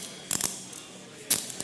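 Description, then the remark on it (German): A standard key turns in a lock, making a quick cluster of sharp metallic clicks, a pause, then another firm click and a few lighter ticks. Fairly quiet, with no voices. “Mit dem Schlüssel. Also wenn man den Schlüssel hat”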